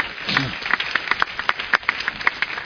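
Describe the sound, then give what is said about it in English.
An audience claps together in a steady, crowded patter of overlapping hand claps, moderately loud, with a brief voice heard near the start. The clapping is a clap offering to the Lord. “Now give the Lord a clap offering.”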